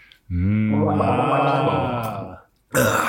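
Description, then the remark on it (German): Someone gargles a drink, a loud, bubbling throaty gurgle held for about two seconds, then a short pause before another burst of noise begins. “Schlucken ist Liebe, gurgeln ist zu viel, oder wie?”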